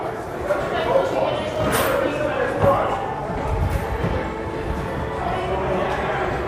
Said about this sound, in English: There's the train. There's the train.